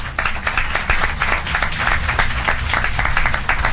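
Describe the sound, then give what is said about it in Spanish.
Sustained audience applause for a female singer as she approaches the microphone before her live performance, many hands clapping densely and steadily, a loud even wash of claps with no voices standing out, lasting the whole few seconds. “hay muchas personas que están aquí para arroparla, que han venido de público, y también esperamos que un aplauso para ella antes de la actuación.”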